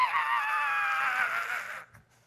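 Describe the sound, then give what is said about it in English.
A person imitates an eagle's screech, holding one loud, high, strained cry for nearly two seconds before cutting off abruptly into quiet. “And a ball, I heard this screech.”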